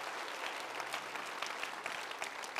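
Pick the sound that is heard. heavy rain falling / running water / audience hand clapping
audience hand clapping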